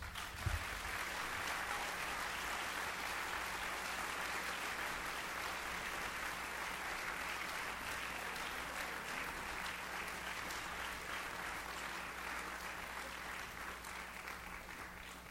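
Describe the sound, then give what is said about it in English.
Sustained audience applause for Coach Tim Miles, head men's basketball coach at the University of Nebraska at Lincoln, after his talk on Noon Forum: a dense steady patter of many hands clapping at an even loudness for about fifteen seconds, with a faint low hum underneath and no voices. “One more time, round of applause, Coach Tim Miles.”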